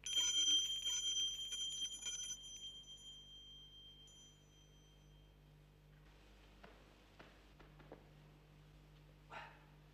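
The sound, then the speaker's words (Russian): A door bell is pulled forcefully, jangling loudly and insistently for a couple of seconds, its bright ringing tones filling the opening before fading to quiet with a few soft knocks and shuffles. “На другой день, как раз тогда, когда Бильбо собирался выпить чаю, кто-то с силой дернул дверной колокольчик.”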